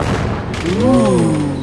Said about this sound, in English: The Look Up Dummy app anticipates to the second when a fireworks show has skyrocketed to its apex and alerts you just in time for the ooh and the ah.